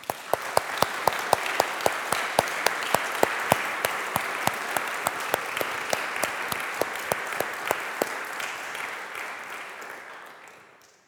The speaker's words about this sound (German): Ich denke, das hätte mal einen herzlichen Applaus verdient.